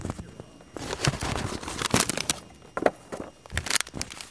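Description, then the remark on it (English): A few early Welty Mignon paper piano rolls are handled, giving dry crinkles, rustles and sharp papery crackles in uneven bursts, with a few soft knocks and shuffles between them and no voices. “I don't know how I'm going to do this with two hands, but here's a few early Welty Mignon, the piano rolls.”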